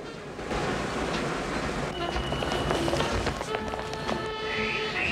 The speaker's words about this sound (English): Driving through the city, past buildings bathed in orange light, then inside an underground train where passengers are crammed together as they head to work.